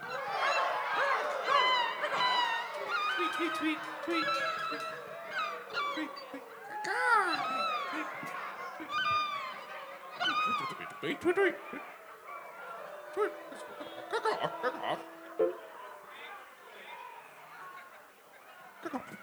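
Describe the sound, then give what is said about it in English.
A large audience at a live concert imitates bird calls all at once on a count of three: a loud, chaotic tangle of overlapping squawks, honks, warbles and whistles that continues steadily for about twenty seconds. “Well, on the count of three, everybody, let's make bird sounds.”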